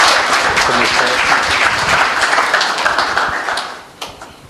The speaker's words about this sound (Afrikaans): Baie dankie, kom ons geef hulle 'n klap.